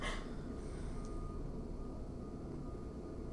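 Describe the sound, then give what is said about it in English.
A truck rumbles steadily outside, its low engine drone filling the background while a faint, thin reversing beep sits high above it, with no voices. “That truck is fucking us up. We can't have a proper moment of silence.”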